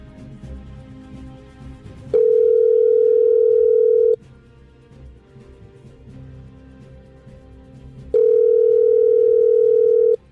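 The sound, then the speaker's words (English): A telephone call to the Diamond Factory ticket hotline rings out on the line: two long, steady mid-pitched ring tones, each about two seconds, separated by a pause over a low background hum, with no one speaking. “Now to the Diamond Factory ticket hotline, folks. I pressed go.”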